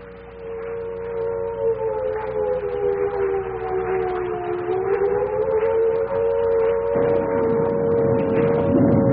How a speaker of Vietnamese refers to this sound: Bỗng tôi chợt nghe lẫn trong tiếng mưa gió tiếng gì đầu tiên nghe như tiếng sáo diều, rồi mỗi lúc một to dần, để cuối cùng thành tiếng còi hụ báo động.